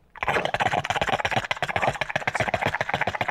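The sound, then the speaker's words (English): A voice imitates a bong hit: a rapid, rattling, bubbly gurgle that stays loud and steady for about three seconds, with no words spoken. “Would you like to hear my impression of a bong hit?”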